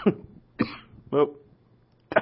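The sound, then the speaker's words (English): Four harsh coughs from a person, spaced unevenly with short pauses between them, the last after a longer gap. No talking, just the raspy bursts and faint room noise. “That's my cough, as you can hear.”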